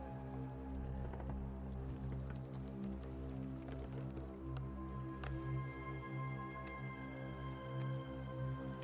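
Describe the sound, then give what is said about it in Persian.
Oars paddle through river water as a boat is rowed, with soft, irregular splashes and drips, over a steady low droning hum that runs throughout. “پارو میزنه”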